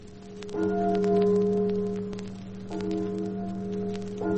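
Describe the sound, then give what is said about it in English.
A bell tolls slowly and mournfully over a small village on the English coast on a gray day, tall ships in the harbor, three deep strikes spaced about two seconds apart, each leaving a long, humming resonance over a soft crackling background. “It is a gray day, and like the echo of the day itself, a bell tolls mournfully.”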